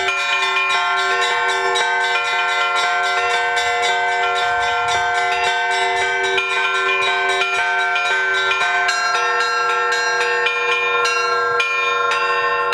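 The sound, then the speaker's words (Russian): Church bells ring continuously in a dense, overlapping peal, with rich sustained tones and steady repeated strikes filling the whole stretch at a loud level. No voices are heard. “который, можно сказать, научил ее, ввел ее в этот мир колокольного звона.”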